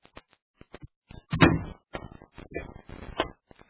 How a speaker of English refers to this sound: Shardu gazes out the window of his office, smiling smugly at the scene below. As the door opens, he turns.